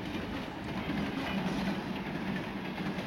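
A train rolls along its rails with a steady rumble and rattling clatter, continuous for the whole stretch with no voices.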